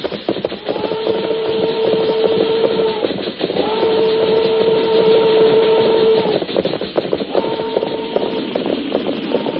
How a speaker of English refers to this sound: Train go plenty slow now. Maybe we get on board.